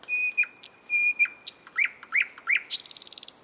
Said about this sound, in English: Nearly half of all the birds on Earth are what is known as songbirds, and most of them are able to produce elaborate songs, like this one from the nightingale.